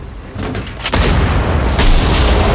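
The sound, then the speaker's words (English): A loud explosion as a German wheeled Pak-40 anti-tank gun, hidden in a haystack in a field, is blown up: a sharp blast about a second in, then a heavy, sustained rumbling roar with crackling debris. No voices. “He pointed its location out to Ola, and soon the German-wheeled Pak-40 cannon became a mass of twisted metal.”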